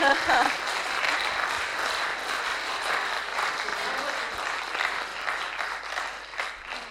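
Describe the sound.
A crowd applauds steadily for several seconds, a dense wash of many hands clapping at fairly even loudness, with a brief voice audible at the very start.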